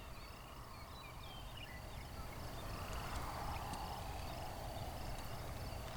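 Faint frogs call at night, just before 9 p.m., during a frog habitat survey stop: repeated pulsing chirps sounding steadily over a constant low background hiss, with no one speaking.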